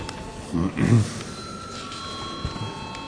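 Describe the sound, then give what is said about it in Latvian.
A parliament chamber bell in the Latvian Saeima rings in a long, steady metallic tone before a vote on a bill, with a brief murmur of voices just before it starts. “Paldies, lūdzu zvanu.”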